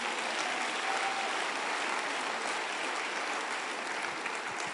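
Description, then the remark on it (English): An audience claps steadily, a dense wash of many hands applauding at an even, sustained loudness for several seconds with no voices above it. “Clap your hands, O ye people.”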